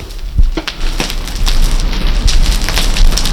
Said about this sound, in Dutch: Ik kijk nu naar de barricade. Ik kan eventueel wat geluiden laten horen van de barricade, zodat de mensen kunnen horen hoe knapperend vuur klinkt.